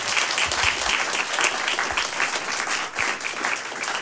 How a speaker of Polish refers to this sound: Dobry wieczór Państwu, prosto ze studia imienia Janusza Hajduna. Brawa, poproszę.